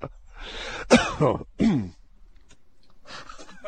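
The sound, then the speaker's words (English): A short cluster of rough, throaty coughs from a sick person, two or three harsh bursts in quick succession, followed by a quieter breathy rustle. “Sorry, I had to cough there.”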